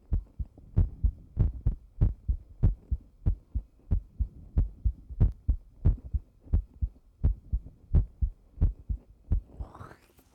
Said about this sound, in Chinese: 心跳好快呀，你在紧张吗？